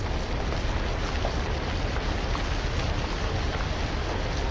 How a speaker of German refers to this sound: Inzwischen hat es, typisch für Hamburg, zu regnen begonnen.